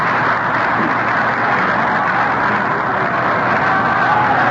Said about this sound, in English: This round of applause is for Freddie Fitzsimmons.